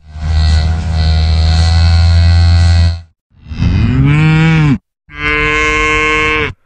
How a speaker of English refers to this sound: let's just let our listeners listen in to what the kind of sounds that you've been listening to and others in the research team over the last number of months. These are some of the sounds from the cows.